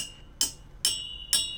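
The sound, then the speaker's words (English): Three bright, ringing clinks of the end of a pair of metal tweezers tapping a glass drinking straw, evenly spaced about half a second apart, each with a short shimmering ring-out, clear with no talking. “Now, the first metal thing I found was tweezers, so here's the end of a pair of tweezers. And I happen to have a glass drinking straw, so I'm going to clonk that.”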